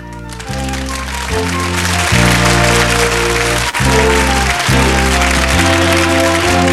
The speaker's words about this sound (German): Ah, Applaus an die Technik. Toller, toll. Super, vielen Dank.